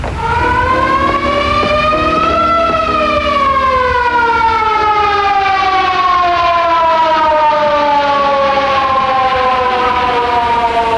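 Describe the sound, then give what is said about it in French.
A loud ambulance siren wails steadily, its pitch rising for a couple of seconds and then gliding slowly downward, with a low engine rumble underneath and no talking. “Thought for a minute that ambulance might have been for him.”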